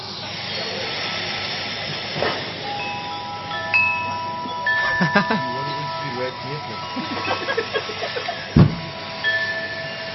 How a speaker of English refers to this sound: There's some wind chime sounds. I thought it was Baby Jesus you were looking at. Oh, no. Okay, how many wind chimes have we got? It's 40 minutes worth of wind chimes.